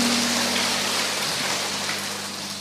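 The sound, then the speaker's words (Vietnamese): A church audience at Chí Hòa parish claps steadily to welcome a woman coming up to give her testimony, the dense patter of many hands filling the whole stretch before easing off slightly toward the end, with no voices heard. “Chúng ta cho một tràng pháo tay để gặp gỡ người chứng nhân ấy.”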